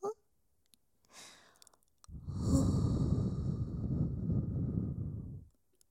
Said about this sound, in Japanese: こうして吐息を吹きかけるだけで、おちんぽの先までブルブル震えちゃってる。